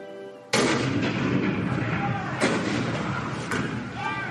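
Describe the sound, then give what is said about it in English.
A sudden, loud cannon blast at Fort Sumter on April 12, 1861, breaks in after a brief tone, followed by a sustained roaring rumble with two more heavy booms. “Fort Sumter. The cannon spoke for war.”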